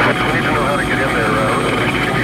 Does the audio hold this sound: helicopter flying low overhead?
yes